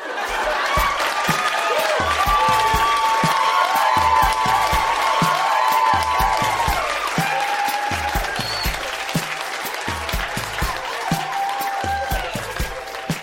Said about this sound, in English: Huge round of applause for all of the readers tonight.